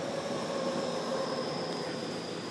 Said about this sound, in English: There goes another train. That's a good thing about living in Tokyo. There's trains all the time.